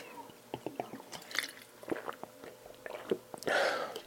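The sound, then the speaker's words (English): A swig of water is taken: a string of small wet mouth clicks and gulping sounds, then a short breathy exhale at the end. The sounds are quiet, and no one speaks. “Another swig of my water.”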